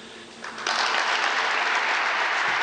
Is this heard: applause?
yes